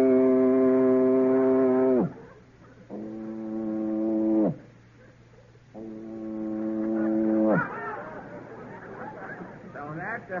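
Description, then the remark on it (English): A voice imitates a foghorn with three long, loud, droning blasts, each sagging in pitch as it ends, followed by a burst of crowd laughter and chatter. “A foghorn. Okay, blast”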